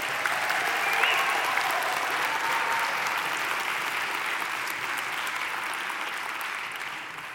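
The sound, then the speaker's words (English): A church audience applauds in welcome during a Sunday service, steadily for several seconds, a dense wash of clapping that holds a fairly even loudness and tapers slightly toward the end, with no one speaking over it. “So one more time, a round of applause and welcome.”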